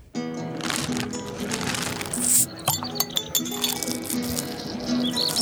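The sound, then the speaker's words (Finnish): Glasses clink together in a Midsummer toast, several bright, ringing taps scattered over a few seconds, over a steady low murmur in the background. “Mutta me kuuntelemme viimeisen biisin, joka on juhannushenkinen, ja sanomme, että kippis.”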